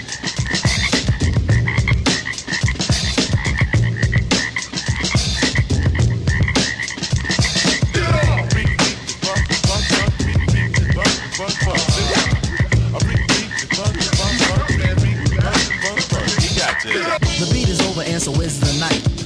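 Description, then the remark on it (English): A loud, dense chorus of frogs croaking continuously, many overlapping calls blending into a steady throbbing din with no pauses, full throughout. “Still hear the frogs dancing in the street.”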